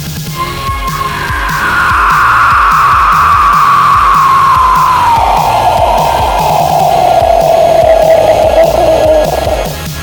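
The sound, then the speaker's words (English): A voice imitates a pterodactyl screech: one long, loud, piercing cry that slides slowly downward for about nine seconds, with a touch of reverb and a steady low rhythmic pulse underneath. “I like the reverb on the Tyrodactyl.”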